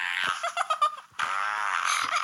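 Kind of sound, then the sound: sound effect, fart sound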